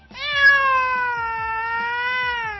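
A single long, drawn-out cat meow, loud, holding steady for a couple of seconds with a slight wavering pitch. Faint low rumbling sits underneath.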